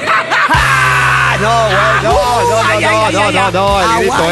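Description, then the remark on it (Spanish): A loud Mexican mariachi-style grito yell lasting several seconds, its pitch warbling up and down in a trilling, ay-ay-ay manner over a low steady hum. “tiene el mejor grito todo, super, los mariachis sí aprenden sí.”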